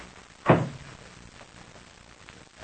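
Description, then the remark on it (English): The door of a plane's rear compartment swings shut with one solid thud, followed by a faint click or two as it is locked, in otherwise quiet surroundings; no one speaks. “Then lock the door and stand on guard in front of it.”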